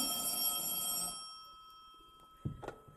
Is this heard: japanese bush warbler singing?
no